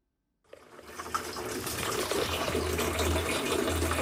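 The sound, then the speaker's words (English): Water gushes steadily from a tap at a tap water kiosk in Kenya run by a 65-year-old man. After a brief silence comes a continuous, broad splashing rush that builds slightly and stays fairly loud, with a low drumming as it fills a container. “65-year-old Dominic Ologi runs a tap water kiosk”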